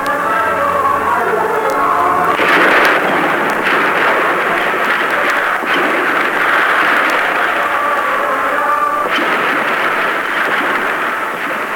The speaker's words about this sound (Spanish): El periodista no sabe de dónde salen los disparos de los francotiradores. Solo sabe que los soldados no disparan contra los que no tienen armas, sino contra quienes los agreden desde los edificios que rodean el Palacio de la Moneda